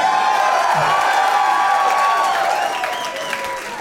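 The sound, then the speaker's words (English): A large live audience at Cafe Istanbul during the Hell Yes Fest in New Orleans cheers and applauds loudly and steadily, a dense wash of clapping with whoops and shrill voices on top, easing slightly toward the end. “That's probably the loudest one ever.”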